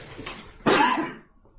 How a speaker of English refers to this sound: Excuse me, I need to cough.